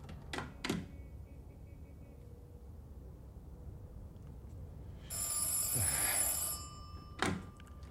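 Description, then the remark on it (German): An old-style telephone bell rings in one sustained burst of about a second and a half, bracketed by dull thuds, like a receiver being handled, with quiet around it. “Ja, dann aber bitte mein Telefonat, ja?”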